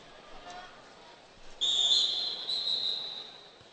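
A single shrill referee's whistle blast starts a period of a wrestling match, ringing out loud and steady for about two seconds, cutting through the low murmur of a crowd.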